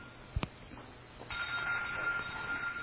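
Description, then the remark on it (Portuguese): A telephone starts ringing partway through, a steady electronic tone that holds for over a second at moderate volume, preceded by a couple of soft knocks. “Desliga o telefone.”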